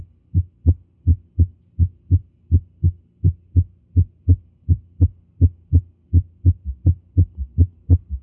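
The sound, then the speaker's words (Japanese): A summation gallop heart rhythm, where third and fourth heart sounds overlap, heard through a stethoscope placed on the heart: low, muffled thuds repeating steadily in a fast galloping cadence, clear with no voices. “これはサメーションギャロップリズムです。3音声と4音声のギャロップ音が重なったものですね。”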